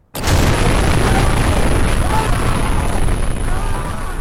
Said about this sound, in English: So that's the explosion that the sound engineer inadvertently captures, and it marks the beginning of the war. It's heard back in LA by the producer, played by Sean Penn.